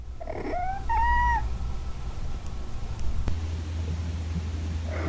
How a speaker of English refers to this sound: It's another cat and heat video. Oh, my God, that cat's getting attacked by another cat.